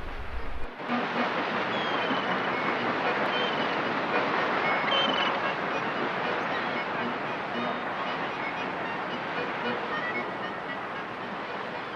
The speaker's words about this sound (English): They set off on the ferry to sightsee for the day.